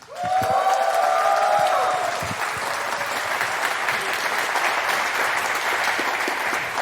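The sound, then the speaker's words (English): An audience breaks into steady, loud applause for the presenters of a Tazbot talk, holding for about seven seconds, with a couple of sustained whoops or whistles rising over the clapping in the first two seconds. “Let's give it up.”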